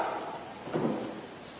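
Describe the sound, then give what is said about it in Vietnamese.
A single muffled thud-and-scrape of a temple's side door being pushed open, brief, rising out of a quiet hum and fading quickly. “Từ một cái tiếng đẩy cửa ra thôi.”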